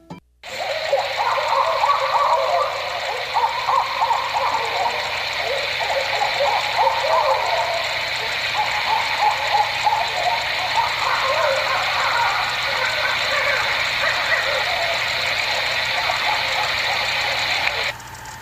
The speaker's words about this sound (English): That was the sound of some barred owls caterwauling.